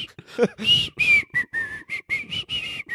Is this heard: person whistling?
yes